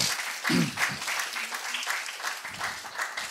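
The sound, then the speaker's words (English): An audience applauds with dense, steady clapping for a few seconds, fairly loud throughout, with a couple of brief voices calling out over the claps. “Yeah, give them a round of applause, yeah?”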